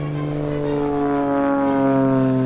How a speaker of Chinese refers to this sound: 这是一架小型的汽油动力飞机起飞的声音，